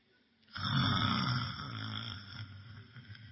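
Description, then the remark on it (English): A voice imitates snoring to portray the Lord asleep, with one long, rough, rattling snore that starts abruptly and slowly fades, loud and low-pitched with a buzzing, throaty texture. “Our Lord slept off.”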